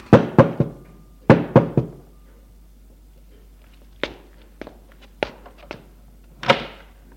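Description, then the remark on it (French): Insistent knocking on a door: two rapid bursts of three loud raps, followed by several lighter, more scattered knocks and thuds. No voices. “De pressant frappe à la porte.”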